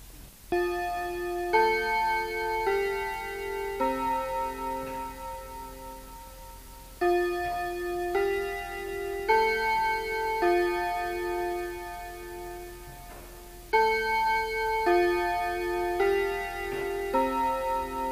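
A Westminster chime rings out on clear, resonant clock bells, playing its familiar four-note phrases in steady groups, each tone sustained and overlapping the next, with no talking.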